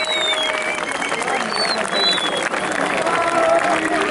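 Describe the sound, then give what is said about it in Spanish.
A large crowd at a freestyle battle final applauds and cheers loudly and steadily for the two competitors, dense clapping mixed with shouting voices and a few high, sharp whistles cutting through. “Un fuerte aplauso para estos dos, loco.”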